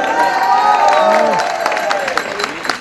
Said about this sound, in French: Mesdames, messieurs, je vous demande une ovation pour Steve Morabito.